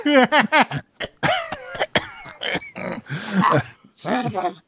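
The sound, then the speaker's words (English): A voice imitates the Joker as a really old man, a creaky laugh in rapid wheezy bursts breaking into a run of harsh, raspy coughs over several seconds. “He would laugh and cough.”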